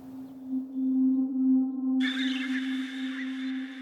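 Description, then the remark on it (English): A low, steady electronic-sounding drone from a trellis wire tone pitched down two or three octaves, rich in faint overtones; about halfway through, a bright, shimmering high layer joins and continues over the hum. “And so now when it pitches down two or three octaves, now you have a fundamental tone that actually has this cool, like, simple, compelling sound that it's actually the first tone that you hear on the first track”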